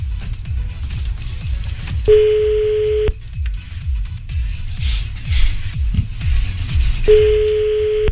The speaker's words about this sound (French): Le temps que mamie Denise décroche. Ah, ça sonne.